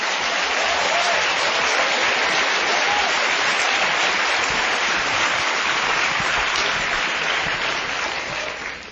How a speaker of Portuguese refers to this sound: Pode aplaudir, irmão!